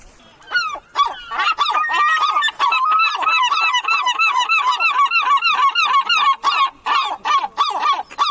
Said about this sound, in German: Ich glaube, das haben die jetzt extra für uns gemacht, ihr drei kleinen Möwen. Ja, ein Möwenterzett.